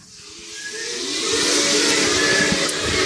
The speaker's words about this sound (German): Das Labor zieht und zischt.